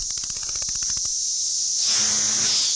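cicadas buzzing outdoors

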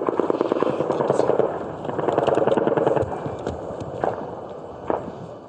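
helicopters flying overhead

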